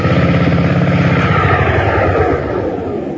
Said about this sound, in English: Well, there she goes. Oh, sweet sound, eh? What say? Sounds good, huh? 1.5 horsepower. Well, go ahead, start mowing.